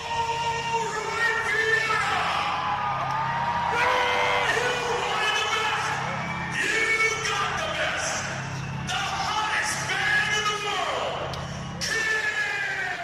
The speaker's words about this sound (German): Vor rund 9000 Fans präsentierten sich die Glitzer-Rocker in gewohnter Manier, laut, schrill, mit viel Feuer und Blut. Die Menge tobte, alles sah nach einem wirklich gelungenen Abend aus